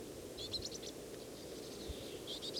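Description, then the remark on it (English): A bird from a flock calls in two short bursts of rapid, high-pitched chirps, one near the start and one at the end, over a steady low background hiss. No one speaks. “On again, this is a different bird of the same flock.”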